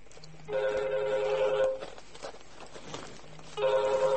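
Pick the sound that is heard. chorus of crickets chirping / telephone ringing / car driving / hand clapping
telephone ringing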